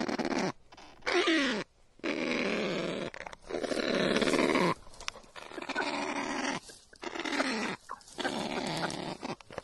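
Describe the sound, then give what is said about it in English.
A kakapo parrot, which can reach 132 decibels, calling in a series of loud, harsh, rasping croaks and grunts, about six bursts separated by brief pauses, with no voices present. “And this is what the kakapos sounds like.”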